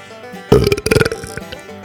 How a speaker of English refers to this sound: Yes, that was a real belch from me just now. I do have the ability to belch on cue. It's one of the many talents I have. But belches are like snowflakes. No two smell exactly alike.